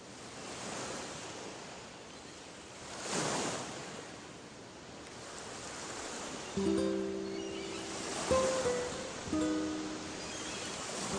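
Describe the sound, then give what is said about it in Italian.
Steady sea surf rushes and hisses, with waves swelling and breaking in slow surges around the third and eighth seconds; faint sustained tones enter over the wash in the second half. “Il mare.”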